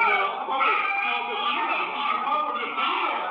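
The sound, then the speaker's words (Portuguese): Several frightened children scream and cry in overlapping, high-pitched wails that continue without a break for the whole stretch, loud and strained with a thin, muffled tone, recorded by a home surveillance system during an armed home invasion in which the family was held hostage. “Assustadas, as crianças gritam.”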